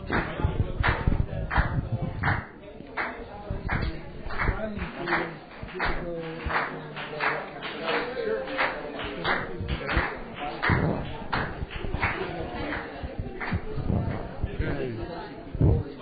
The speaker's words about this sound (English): Well, now that the clapping stops, we're all set to go.